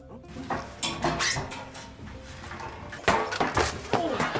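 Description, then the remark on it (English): A steel chair hits a person in a series of loud metallic clangs and thuds, striking several times in an irregular rhythm with a faint metallic ring and some rough background noise. “this guy wants to know if it hurts to get hit by a steel chair.”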